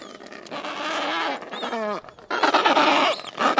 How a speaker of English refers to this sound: That's a colony of Adelie penguins with their chicks.